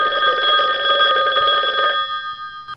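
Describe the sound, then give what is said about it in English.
A telephone rings with a bright, steady electronic trill, loud and close, lasting about two seconds before cutting off and leaving a faint tonal tail. “All right, take a listen to this phone call.”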